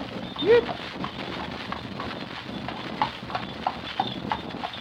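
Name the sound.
horse hooves clip-clopping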